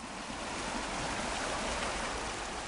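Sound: river water flowing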